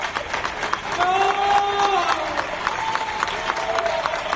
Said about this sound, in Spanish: Desde hace dos tardes salimos a estas nuestras ventanas a aplaudir a los médicos.